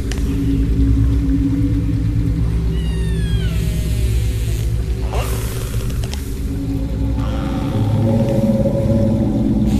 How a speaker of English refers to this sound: Anya and Deja asked for join noises, so Tony incorporated open source recordings of whale calls over virtual instruments from a Spitfire audio collection, which transformed whale songs into granular synthesis.